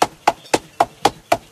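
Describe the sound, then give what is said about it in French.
Six sharp hammer blows strike orange fabric of about 2 square metres, the start of 1500 blows, in a quick, steady rhythm, each a dull thud with a brief bright edge, evenly spaced and fairly loud, with no voices. “Donc c'est parti pour 1500 coups de marteau, là, sur ce tissu orange.”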